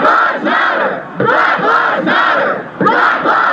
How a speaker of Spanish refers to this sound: quienes desesperados gritan en las manifestaciones: la vida de los negros también importa y dejen de matarnos.